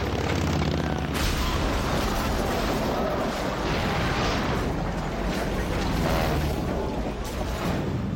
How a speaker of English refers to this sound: A World War II Corsair was trying to take off, but it clipped the wing of another aircraft. The classic plane twists into a horrible fireball.